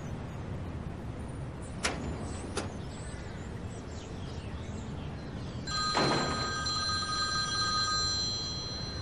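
A couple of sharp clicks over a low, steady rumble, then a telephone starts ringing with a bright, sustained electronic tone that carries on to the end, clear.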